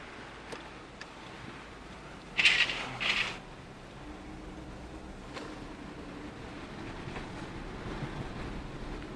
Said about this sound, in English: Can you believe this? It's fucking raining right now.